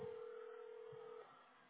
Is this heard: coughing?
no